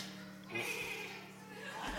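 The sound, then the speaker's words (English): A person imitates a horse's whinny with a wavering, bleating voice held for over a second, fairly loud, with faint background hum. “Who can whinny like a horse? Let's hear it.”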